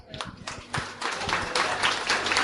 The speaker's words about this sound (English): There's a bit of a reluctance in that round of applause as well.